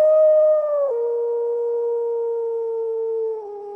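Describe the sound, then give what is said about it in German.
Long, sustained howls from three wolves with steady tones that drop in pitch partway through, fairly loud and clear, with no talking. “Immer wieder hörten sie das Heulen der drei Wölfe.”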